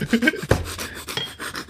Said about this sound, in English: Whose phone was that? That was mine. Definitely not mine.